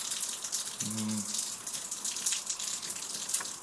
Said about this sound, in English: I don't know if you can hear. If I go over here a little bit, you're not going to hear it better. There's water running off the roof.